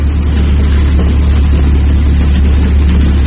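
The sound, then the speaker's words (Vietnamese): A car engine drones steadily from afar at dawn, its headlights showing through the early morning mist, a deep, continuous low rumble that holds at an even loudness throughout, with no voices or other sounds over it. “Trời mới tờ mờ sáng, Tư Cầu vừa cho anh em tản ra lội tắt ngang ruộng để về rạch chiếc thì bỗng nghe có tiếng máy xe hơi chạy từ xa vang lại.”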